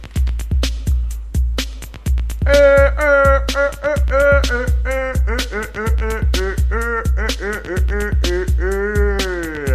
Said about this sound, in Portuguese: Solta o batidão, galinha. Vamos começar a trabalhar.